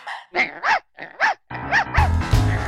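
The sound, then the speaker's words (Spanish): A dog barks about six times in quick pairs, sharp, with a steady noisy backdrop rising underneath during the second half. “Los perros han acompañado al ser humano desde hace al menos 15.000 años.”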